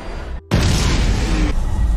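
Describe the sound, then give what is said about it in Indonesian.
A sudden, loud explosion in a movie scene, as a man's body blows up with energy absorbed from a grenade blast, erupts after a brief moment of near silence, its deep rumbling boom and broad roar sustaining for over a second before easing slightly into a lingering low rumble. “Rupanya, Shaw ternyata juga adalah seorang mutan yang mampu menyerap energi dari ledakan granat lalu memindahkannya ke tubuh Henry hingga tubuhnya pun meledak.”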